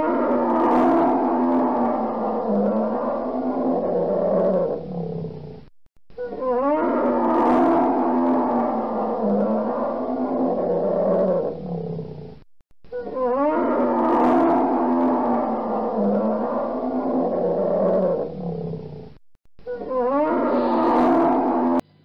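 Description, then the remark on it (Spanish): A polar bear growls in four long, loud rumbling bursts separated by brief silences, deep and throaty with rough snarling edges, with no one talking. “Oso polar.”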